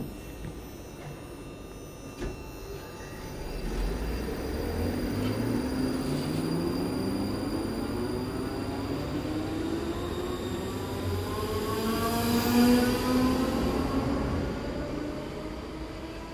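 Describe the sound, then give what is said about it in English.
A train heading to Edinburgh pulls away from a station, its electric motors whining steadily upward in pitch as it gathers speed over a continuous rumble of wheels on track. “on board the train, heading back to Edinburgh.”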